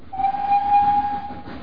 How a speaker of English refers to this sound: And so I caught the train into Kilchester to call at the offices of Breather and Scuttle, the estate agents where James Bentley had once worked.